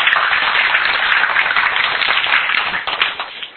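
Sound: audience clapping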